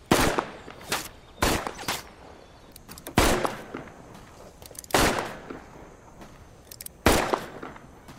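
Gunshots ring out one after another during shooting practice, about seven sharp cracks at uneven intervals, some in quick pairs, each leaving a brief echoing tail. No one speaks.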